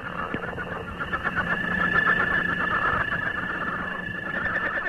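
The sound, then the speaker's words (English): A northern leopard frog calls with a loud, continuous rattling trill that has a squeaky, whinny-like edge. It holds steady for the whole few seconds, with no voices. “Here's one of my personal favorites, the northern leopard frog.”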